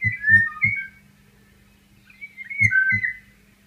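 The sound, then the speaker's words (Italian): Two short, fluty whistled phrases of Eurasian golden oriole song among the oaks of the Procoio estate, each a mellow rising-and-falling warble, separated by a pause of about two seconds. Soft low thumps accompany each phrase. “Il suo canto è inconfondibile e udibile a molta distanza.”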